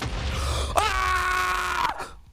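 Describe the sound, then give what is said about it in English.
A single loud, sustained human scream lasting about a second, strained and high-pitched, rising out of faint background noise and cutting off abruptly. “My mum's not going to be happy I just screamed that loud.”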